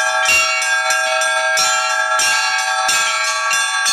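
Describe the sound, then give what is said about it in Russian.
Church bells peal loudly and continuously, several bells overlapping in a rich, ringing chime with repeated strikes roughly every half second and a sustained metallic hum between them, announcing the start of the main show of a festival of equestrian competitions at an open-air ethnographic Cossack village complex on the Taman Peninsula. “Колокольный звон возвестил о начале главного зрелищного шоу фестиваля конно-спортивных соревнований.”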